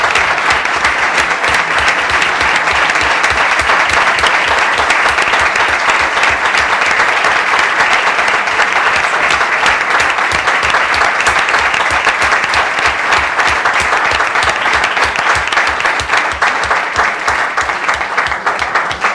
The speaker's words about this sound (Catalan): S'aprova per unanimitat i jo faria un gran aplaudiment a aquest moment.